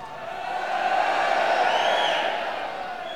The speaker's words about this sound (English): That sounds like a crowd watching Bournemouth.